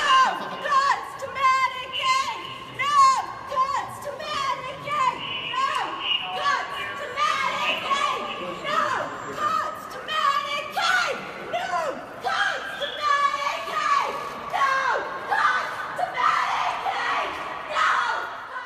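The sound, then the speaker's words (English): A protest crowd in a congressional office last Thursday, with many overlapping voices shouting and calling out continuously, loud and high-pitched, with no pauses across the whole stretch and no single voice standing clear. “And let's listen to just a little bit of what that protest sounded like last Thursday.”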